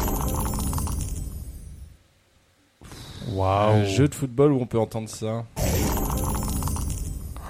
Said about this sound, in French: Vous entendez pas comme un petit bruit de dés ? Alors, mais même. Aucune idée. Aucune idée. Ah, du Blood Bowl. Blood Bowl, effectivement.